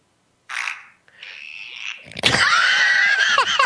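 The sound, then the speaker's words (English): A fart sound effect from the I Fart phone app: a short hissy burst, a thin whistling squeal, then a loud, raspy, sputtering blast with a wavering high pitch that runs to the end. No one speaks. “It's the fart that, you know, you do different farts.”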